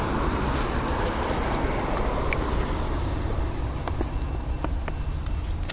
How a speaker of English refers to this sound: Here comes a train